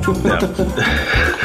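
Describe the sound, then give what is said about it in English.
A pet dog vocalizes in a run of loud, wavering, whine-like cries with a rising and falling pitch, repeating in quick pulses for about a second and a half. “I think it was my dog.”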